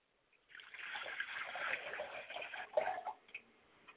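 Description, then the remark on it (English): Water is poured from a glass as a libation, a soft, splashing stream for about three seconds that trails off into a few faint drips. The sound is fairly quiet, with no voices. “I pour a glass of water to my Father Spirit, and I say, Ashe.”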